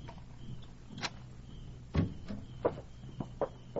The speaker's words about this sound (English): Open the door.